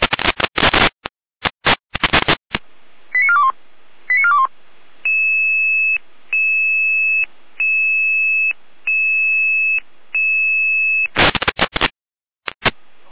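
A dispatch alarm tone for Jena over a radio channel: short bursts of static, a couple of quick falling chirps, then about six seconds of steady, evenly spaced beeping tones before the static returns.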